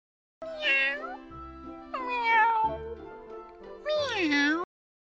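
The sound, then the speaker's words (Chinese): Three drawn-out cat meows, fairly loud, each rising then falling in pitch, separated by short pauses with a faint low hum underneath. “一只母猫，五只小猫，住在我的家。”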